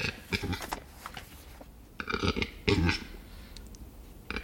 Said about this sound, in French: C'est typique de la parade de l'oiseau forêt. J'ai nommé le grand tétras, plus gros oiseau forestier en Europe.